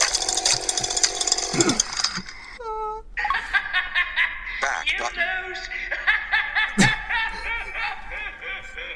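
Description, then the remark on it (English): A video game's maniacal doctor villain laughs as the player is killed, cackling in rapid, stuttering bursts, loud, mixed with a buzzing, revving motor noise and harsh game sound effects. “That's the maniacal doctor.”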